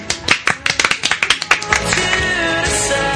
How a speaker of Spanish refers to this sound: Hoy ya es viernes, día 14 de mayo. Sí. Un aplauso.